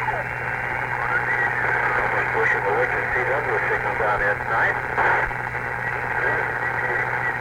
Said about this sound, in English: I can hear the receiver going upstairs there. You were static on it too, I thought. You couldn't make out what the program was.